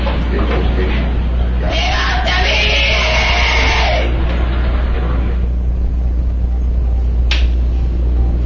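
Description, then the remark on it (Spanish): Loud, harsh screaming and howling voices rise in a sustained burst, then fade into murmuring, with one more short shriek near the end over a steady low rumble. “Alaridos y voces ensordecedoras mantienen con los pelos de punta a los pobladores de la ciudad de Jaén.”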